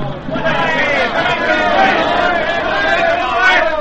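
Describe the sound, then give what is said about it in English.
A large crowd cheers and shouts in a steady, loud roar of many voices, sustained throughout with no pauses, as an airplane glides to a perfect landing after a record-breaking endurance flight in 1929. “At 38 minutes, 30 seconds past 7, the St. Louis Robin glides to earth in a perfect landing amid the roaring cheers of the crowd.”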